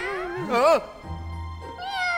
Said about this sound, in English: Oh! They're little kittens! What? Then what we heard... were just baby kittens?